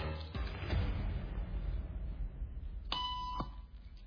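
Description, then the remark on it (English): A single short electronic beep, a steady mid-pitched tone lasting about half a second, rises clearly above a constant murmur of room noise during a social conformity experiment; the tone signals the people in the room to stand up. No one speaks. “Beep means stand up.”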